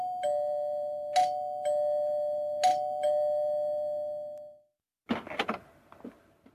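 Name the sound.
doorbell ringing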